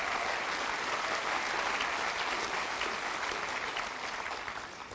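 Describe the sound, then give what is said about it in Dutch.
An audience applauds steadily for 19 young people in white dresses at an evening gathering, a dense wash of many hands clapping at once, sustained for several seconds before starting to taper off at the end. “Ja, laten ze nog een keer applaus geven.”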